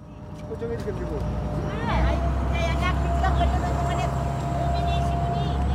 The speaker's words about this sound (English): We board this industrial old blue fishing boat. The motor starts to pick up speed, and then the women start to gear up.